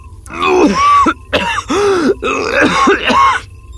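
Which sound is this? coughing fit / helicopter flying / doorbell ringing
coughing fit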